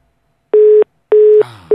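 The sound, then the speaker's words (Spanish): A telephone line tone beeps in short, steady pulses, three evenly spaced beeps signaling that a call has been cut off after the other person's cell phone was switched off before a flight, loud, with some faint background noise creeping in toward the end. “Veníamos bien, la veníamos pisteando como un campeón y finalmente se lo hicieron apagar.”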